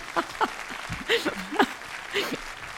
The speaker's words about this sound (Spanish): Obsérvame. Un aplauso, por favor, un aplauso, porque en eso se estarán reconociendo.